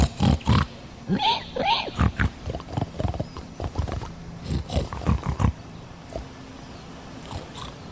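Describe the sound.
People make loud imitations of pig grunts and snuffles, speaking in 'Hog Latin', a rapid string of snorting bursts for about five seconds before fading to quiet breathy noises.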